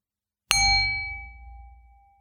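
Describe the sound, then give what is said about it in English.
A single bell is struck once, ringing out clearly with a bright, sustained tone that slowly fades away into silence over a couple of seconds. “I'm going to ring a bell in just a few moments, and stay with the sound from that bell until you cannot hear it anymore.”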